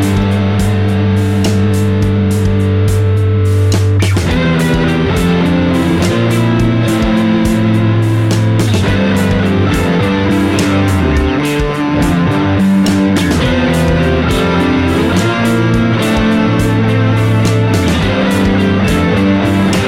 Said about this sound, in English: The Worm 2 is the only effects pedal in the chain. I've added no post EQ, no reverbs, no delays, no extra bass or keys. The Worm 2 is doing all the heavy lifting and doing a great job of it.